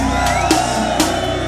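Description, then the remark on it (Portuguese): An audience of men shouts together in a loud, sustained roar, with sharp bursts of extra noise rising out of the din about twice in quick succession. “E agora o grito dos homens fiéis.”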